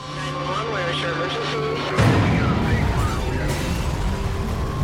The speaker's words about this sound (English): Suddenly, at 3:30 a.m., the calm is pierced by the sounds of a fire alarm at Vail Ski Patrol headquarters.